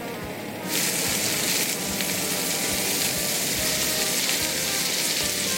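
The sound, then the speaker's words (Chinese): Bell peppers, salted, are quickly stir-fried in a little hot oil in a wok for about a minute and a half, a steady bright crackling hiss that jumps louder after the first moment and keeps going, with faint scraping and clinks of stirring underneath. Nobody speaks. “彩椒的部分我们倒一点油在锅里面稍微热热以后就炒彩椒，当然彩椒炒的时候也是要加点盐巴。”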